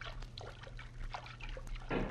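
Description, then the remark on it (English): Soft, irregular water splashing and sloshing as men wade through a river and roll out of the water onto the bank, rising to a fuller splash at the end over a low steady hum, with no voices. “Now we are at the bank. Make no noise, Pancho. Now, roll out of the water.”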